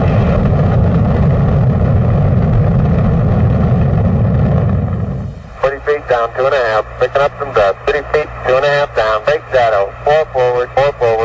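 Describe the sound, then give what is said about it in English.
The rocket engines of Apollo 11 roar at liftoff in 1969, a loud, dense rumble for about five seconds, then it cuts away to crackly radio-style voices talking. “All engines running. Liftoff. We have a liftoff.”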